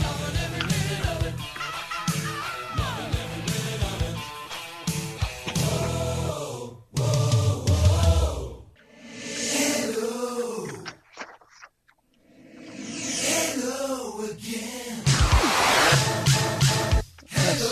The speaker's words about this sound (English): I started this music way too early. Got some time to burn here. Y'all listen to it. It's fun. Oh, I love it.